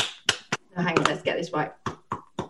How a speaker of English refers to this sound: Oh, that's a lovely bit of clapping action there. It's good, isn't it? It's good.